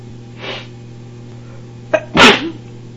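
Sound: woman sneezing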